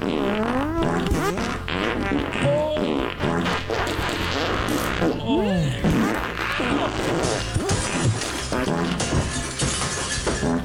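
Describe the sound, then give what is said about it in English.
A montage of recorded farts: a rapid, nonstop string of loud fart sounds, one after another, varying in pitch and length, some squeaky and rising, others rough and sputtering, with brief crashing noises mixed in. “And now here's a montage of other fun farts.”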